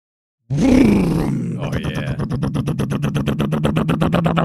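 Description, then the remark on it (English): The BunkTech Bunker Alarm 3000, a diesel machine, roars to life with a rising groan as it is switched on, then settles into a steady, low rumbling idle with a rapid, even chugging pulse that continues throughout. “This machine is called the BunkTech Bunker Alarm 3000, and it's a flawless piece of equipment.”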